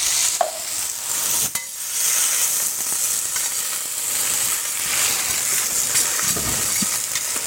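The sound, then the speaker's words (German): A steady, bright hiss of black kale (Schwarzkohl) sizzling in a hot pan after a small sip of water is added, with occasional sharp clicks and soft scraping from stirring, continuous throughout without any voices. “So, ein Schluck Wasser. Reicht nur ein Schlückchen.”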